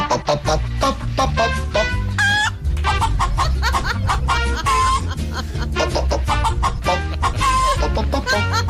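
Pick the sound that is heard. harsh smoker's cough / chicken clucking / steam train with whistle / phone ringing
chicken clucking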